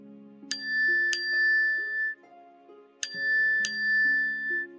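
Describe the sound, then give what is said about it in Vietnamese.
A bright, bell-like text message notification chime on a phone rings twice, each time as a quick pair of metallic dings, over a soft sustained tonal backdrop. No one speaks. “Đây không phải là chuông tin nhắn của mình.”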